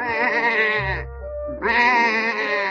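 sheep bleating

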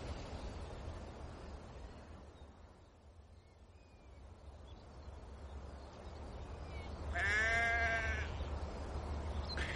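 sheep bleating

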